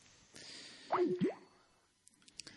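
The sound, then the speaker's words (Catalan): A short Skype call hang-up tone at the end of a call: two quick swooping, bubbly notes close together, fairly clear over a faint background hiss, followed by a few soft clicks. “El sorollet de l'Skype.”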